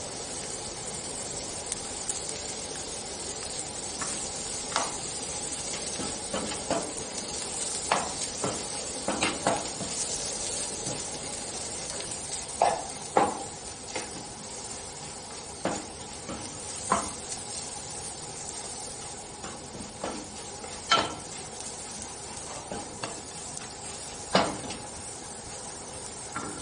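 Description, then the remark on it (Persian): A steady, soft sizzle of spices being added to raisins frying in a pan over low heat, broken by irregular scrapes and clinks of a spoon stirring, with no talking. “حرارت هم کمه کمه. ادویه ها اضافه میکنم همینجا.”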